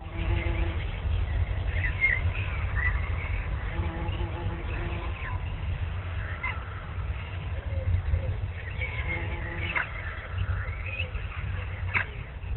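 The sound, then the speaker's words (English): Birds chirp outdoors in scattered short bursts, fairly faint, over a steady low rumbling background hum that runs throughout. “I hear birds chirping.”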